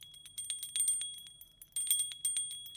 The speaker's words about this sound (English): Okay, so we've rang the bell for the Soul Sisters. Now we need to ring the bell for Dave and Shrubs and Rubs.